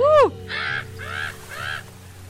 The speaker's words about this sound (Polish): Tak więc porelaksowaliśmy się troszkę przy dźwiękach morza i oceanu,